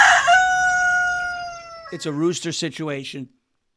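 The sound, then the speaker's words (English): A rooster crows once, loud, its drawn-out call sliding slightly downward before fading. A person starts talking right as the crow ends. “It's a rooster situation.”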